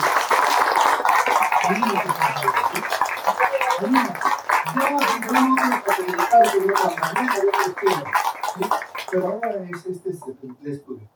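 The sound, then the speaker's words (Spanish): A crowd bursts into sustained, dense applause with people shouting and cheering over it. The clapping stays loud for several seconds before thinning out and fading at the end. “¿Le puedes dar ese aplauso?”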